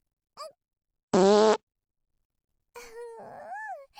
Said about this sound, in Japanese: いっぱいおなら出すのってこんなに気持ちいいんだね。